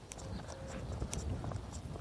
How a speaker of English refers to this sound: I've got a light breeze blowing across. I can actually hear the leaves rustling.